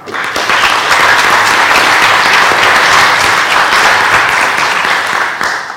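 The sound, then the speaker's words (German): Sustained applause from the audience at the EduCamp meets GMW event, thanking the organizer: many hands clapping in a dense, steady wash that stays loud for several seconds before tapering slightly at the end. “und ich glaube, das verdient nochmal einen Applaus von allen.”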